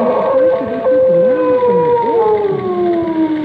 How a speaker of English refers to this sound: That thing howls or wails or screeches again, I'll get it on this tape, and I might be able to study it and find...